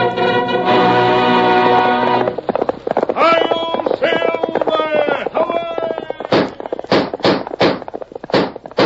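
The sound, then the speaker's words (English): Galloping hoofbeats of Silver, the Lone Ranger's horse, in The Lone Ranger old-time radio program first aired April 18, 1938, clatter along under a dramatic announcer's voice that follows a held musical note, then come through loudly on their own as a few sharp, heavy thuds near the end. “Fiery horse of the speed of light, a cloud of dust, and a hearty high-o silver, the Lone Ranger.”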